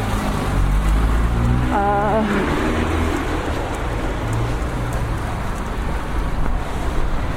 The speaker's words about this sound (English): It is windy. It's 2nd of June.